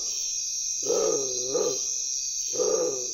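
At nightfall, a bare-throated tiger heron, its neck extended outward as it calls, gives deep, low, moaning calls: two linked hoots, a short pause, then another, close and clear over a steady high-pitched insect drone.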